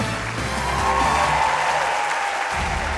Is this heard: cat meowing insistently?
no